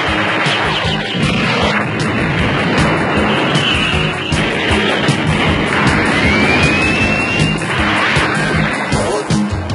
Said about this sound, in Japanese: 何、ヘリか。アラホーもヘリを出動させろ。